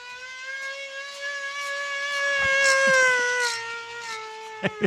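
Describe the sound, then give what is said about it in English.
An old-fashioned police siren holds a steady, slightly falling wail that swells louder and then eases off like a drive-by passing, with a couple of sharp clicks at the very end. “it can't help but sound like a 1940s police.”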